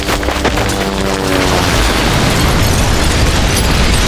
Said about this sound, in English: Boland watched a huge Chinook up ahead explode in a shower of flying metal, spraying flaming fuel across the airfield